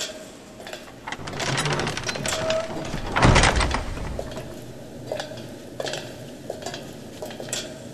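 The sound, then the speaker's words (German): An automatic keycard-operated door whirs and rattles as it slides shut on its own after 5 seconds, landing with a solid thud partway through, followed by quieter mechanical clicks and room noise. No one speaks. “Die Tür schließt von allein nach 5 Sekunden.”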